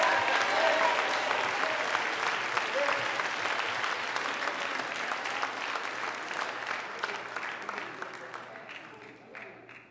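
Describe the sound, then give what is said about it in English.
A crowd claps steadily in dense, loud applause mixed with scattered shouts and cheers, responding to a call to clap their hands and give God a mighty shout; the noise stays strong throughout before tapering off slightly at the end. “If you know that's why God brought you here, clap your hands, all ye people, and give God a mighty shout.”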